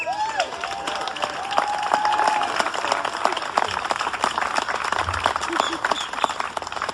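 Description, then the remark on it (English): An audience applauds a person who worked behind the scenes in the mayor's office, steady, dense applause that holds at an even, loud level for the whole stretch, with a few rising whistles and cheering voices mixed in near the start. “That applause is hard-earned, and I need to acknowledge the value you created”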